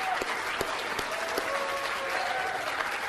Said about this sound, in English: Yes, you can applaud.